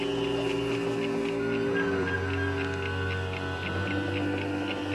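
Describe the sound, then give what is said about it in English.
Steady, evenly spaced ticking like a time bomb's clock, repeating at a brisk rhythm over a sustained, droning tonal background, with no one speaking. “I hear ticking. I don't see any clocks.”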